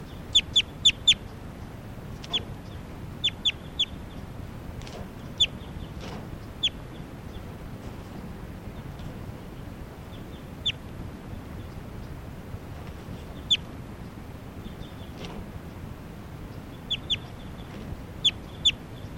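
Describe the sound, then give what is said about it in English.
A bird, numbered 387, clucks in short, sharp bursts during a tape-recording test at Sage Hen, several quick clucks in clusters with gaps between, over a steady low rumble of background noise and no talking. “So recording, this is bird 387.”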